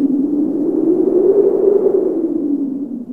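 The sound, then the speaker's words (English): A steady, breathy whooshing hum, likely a voice imitating the wind, holds for about three seconds at even loudness, rising and falling gently in pitch. “This is how the wind blows.”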